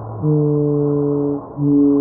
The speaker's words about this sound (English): Blue whales also produce one of the loudest sounds in the entire animal kingdom, measured at around 190 decibels. The blue whale's song is louder than the engines of a jumbo jet and can be heard more than 1,500 kilometers away.